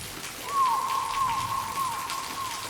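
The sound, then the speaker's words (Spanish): Steady rain hisses throughout, with scattered drop-like crackles, while a sustained high whistling tone enters after a moment and holds over the downpour. “The thunder god poured rain from the Milky Way.”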